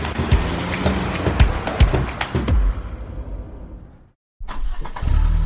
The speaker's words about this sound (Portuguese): Ei, conhece esse som? Mesmo que você seja como eu e nunca tenha dirigido na sua vida, esse som de motor já é bem familiar. Seja no seu carro, no ônibus ou nas motos que costuram o trânsito que a gente pega todos os dias